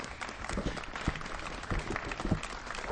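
Sustained applause from a crowd, many hands clapping in a dense, continuous patter with a few louder sharp claps standing out, steady in volume throughout.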